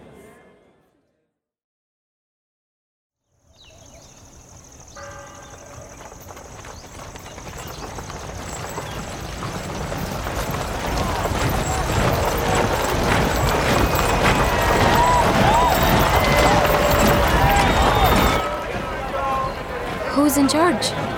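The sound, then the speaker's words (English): Horse hooves clip-clop in a steady, dense rhythm that begins after a brief silence and grows louder, with murmuring voices mixed in underneath, as the Sultan on a white horse and his army ride up. “The Sultan. On the white horse.”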